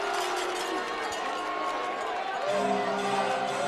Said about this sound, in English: Crowd getting rowdy here in Fredericksburg.